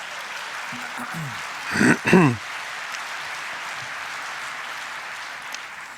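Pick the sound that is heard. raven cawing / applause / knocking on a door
applause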